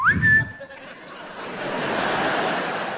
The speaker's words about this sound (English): Check in with the Admiral every morning. Come down in the kitchen, blow that Navy whistle.